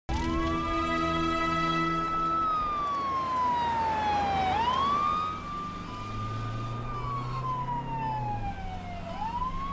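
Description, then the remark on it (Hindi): An ambulance siren wails loud, sweeping slowly up and down in long cycles over a low engine rumble, with no voices. “आप मैं कहाँ? एम्बुलेंस में।”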